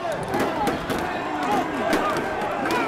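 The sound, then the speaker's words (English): Riot police bang batons against shields as they walk in line during a protest, a series of sharp, loud clacks at a loose marching rhythm, with a noisy crowd of shouting protesters underneath. “More riot police were called in, banging their batons against their shields as they walked in line before stopping at an intersection, where protesters met them, yelling just inches from the officers' faces.”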